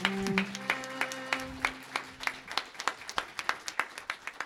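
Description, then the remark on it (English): A round of applause: crisp, steady claps repeating at a brisk, even pace, with a low sustained tone underneath during the first half that fades away. “And I think we need to honor them with a really nice round of applause for what they've accomplished.”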